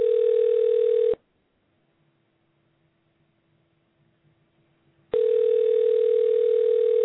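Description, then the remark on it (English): A telephone ringback tone on an outgoing call: two loud, steady buzzing rings separated by about four seconds of near silence with a faint low hum. No one speaks. “Well, it only lets you ring a certain amount of time.”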